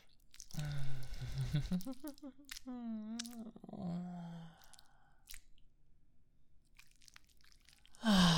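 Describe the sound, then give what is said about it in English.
Wet gulping and swallowing sounds mixed with muffled, voiced murmurs, loudest early on, then a quieter stretch before one more throaty gulp near the end. “Gulping it all down at once like this makes me feel almost lightheaded.”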